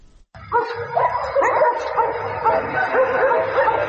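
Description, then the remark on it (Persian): Several stray dogs bark and yip almost continuously in the streets and roads of Kabul, overlapping in a busy chorus, with some whining mixed in after a brief quiet start. “شماری از شهروندان کابل میگویند که افزایش سگ‌های ولگرد در کوچه‌ها و جاده‌ها رفت و آمد روزمره آنان را با مشکل روبرو کرده است.”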